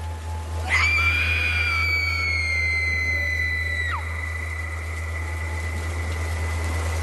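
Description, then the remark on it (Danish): A long, eerie scream with rich harmonics rises sharply, holds for about three seconds, then breaks off, heard at a harbour in heavy rain and coming from a distant assembly hall, set against a steady low rumble and faint background noise. “Imens Ophelia står modløs i den tykke regn, hører hun et uhyggeligt skrig.”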